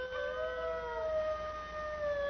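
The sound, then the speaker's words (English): Several wolves in the wild howl together in long, overlapping sustained notes that slowly slide in pitch, forming a wavering, slightly discordant chorus with no talking. “what you are listening to is the actual recorded voices of wolves.”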